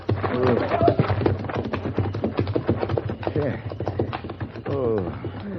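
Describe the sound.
Horses' hooves clip-clop in a steady, busy rhythm, mixed with indistinct voices and a few cooing, bird-like sounds layered over the clatter.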